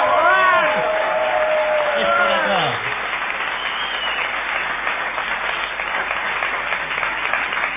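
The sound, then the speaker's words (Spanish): A crowd at the Caras y Caretas gives an ovation, applauding loudly, with rising whistles and excited cheering voices in the first few seconds, then dense, steady clapping continues at a slightly lower level to the end. “No menos falsa será la ovación que tributaremos a Gillespie.”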